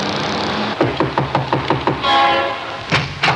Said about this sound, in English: about to knock on the weather-beaten door.